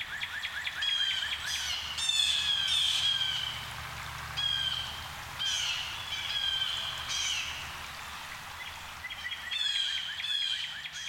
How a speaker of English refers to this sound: There can be small flocks of a few birds, up to hundreds, all heading south. It's a big jay ruckus when they swoop down into a woodlot like the one in my yard in Fayetteville.